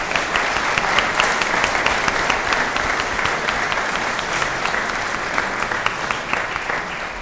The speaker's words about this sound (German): Und auch wenn die Rosen jetzt leider verschenkt sind, weil irgendwas schiefgegangen ist, stellt euch vor, wir hätten jetzt eine Rose für euch und ich finde, dabei zu bleiben, das ist einen richtig guten Applaus wert.